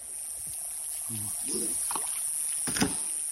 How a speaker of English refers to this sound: Every few minutes we stop rowing the boat